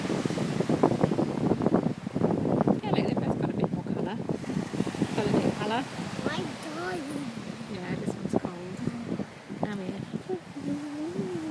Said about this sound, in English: I'll record a few more waves then.